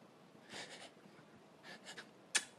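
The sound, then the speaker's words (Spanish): A voice imitates the halting breaths before a sneeze: two clusters of quick, breathy, stuttering inhales, then a single sharp, brief burst at the end. No words are spoken. “Cuando está a punto de estornudar, o sea, cuando tú ves a la persona así.”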